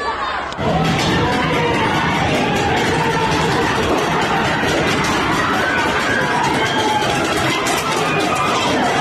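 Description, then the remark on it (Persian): A large crowd of street protesters in Tehran, Iran, shouts slogans against the Islamic Republic in loud, sustained voices, rising and falling like rhythmic chanting, with cheering and overlapping yells filling the whole stretch after a brief quiet start. “معترضان در تعداد قابل توجهی از خیابان‌ها و محله‌های تهران بر علیه جمهوری اسلامی شعار سر دادند.”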